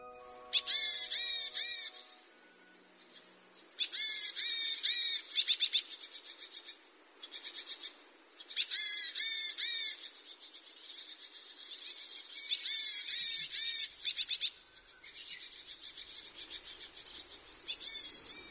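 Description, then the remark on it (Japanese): Varied tits give repeated nasal, buzzy "nee-nee" calls in bursts of several notes, loud, separated by short pauses, with no voices, below an observation deck overlooking Kumamoto city in Japan. “ニーニーと聞こえる声、ヤマガラです。”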